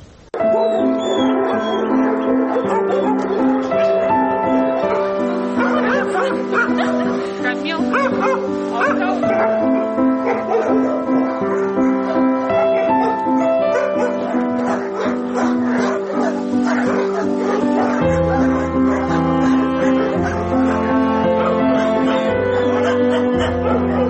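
Many dogs at an animal shelter bark, yip and whimper at once, a loud, continuous overlapping chorus that never lets up, with high whining cries mixed among the barks.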